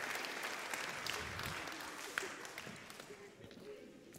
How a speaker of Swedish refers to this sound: Vi ger dem en applåd.